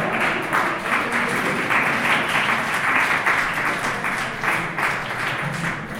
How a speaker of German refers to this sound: Dafür einen großen Applaus.